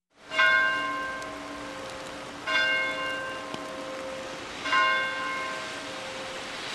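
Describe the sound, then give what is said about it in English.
A single church bell in Newtown, Connecticut, tolls slowly in remembrance, one for each victim, three strikes roughly two seconds apart, each ringing out with rich, lingering overtones that overlap the next. No voices are heard. “And as we mentioned this morning in Newtown, Connecticut, church bells rang out, one for each victim. You're hearing some here.”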